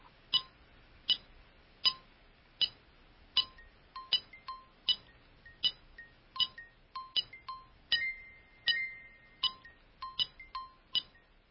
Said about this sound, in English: We've got a metronome here which is ticking away at 80 beats to the minute, and you can hear actually, if I hold it up to the microphone, that it actually is quite a steady speed.